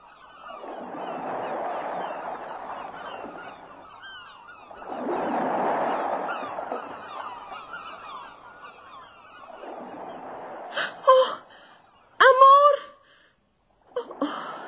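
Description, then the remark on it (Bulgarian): A bird calls out with a few loud, harsh honking cries near the end, following longer stretches of soft, breathy rustling noise; the calls sound abrupt. “Птица била.”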